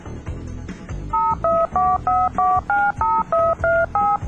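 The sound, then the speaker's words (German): Touch-tone telephone dialing as Radio ISW's surprise-phone segment calls a listener with birthday wishes: a rapid series of about ten beeps, each a short two-pitch tone in an even rhythm, played over a low musical bed. “Wir versuchen es bei einer Martina.”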